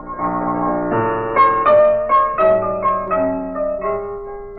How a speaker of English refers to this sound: But the door was open so we could hear Sammy Page at the piano.